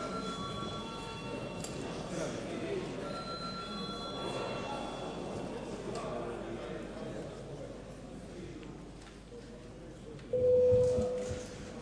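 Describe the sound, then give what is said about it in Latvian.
A parliamentary voting bell rings with steady, sustained tones over a murmuring chamber, followed near the end by a brief, louder tone. The chair calls for the bell as deputies vote on a proposal. “Lūdzu zvanu.”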